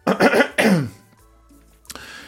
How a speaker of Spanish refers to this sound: voy a toser porque tengo como una carrasperita, no sé si escuchan ahí en el fondo.